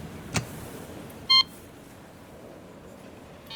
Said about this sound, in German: Das ist so ein Hinterhofeingang. Mal schauen. Ich klingel mal.